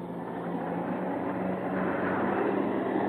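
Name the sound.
jet aircraft flying overhead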